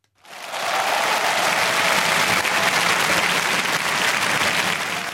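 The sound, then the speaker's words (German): Sustained, dense applause from a large crowd, rising quickly and holding steady at full volume throughout, with no speech over it: a five-minute standing ovation for party chairman Horst Seehofer after his closing speech at the two-day party conference in Munich. “Der Applaus zum Schluss der Schlussrede war der wichtigste Moment für Horst Seehofer.”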